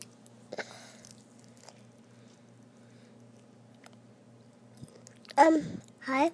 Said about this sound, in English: I'm eating a strawberry.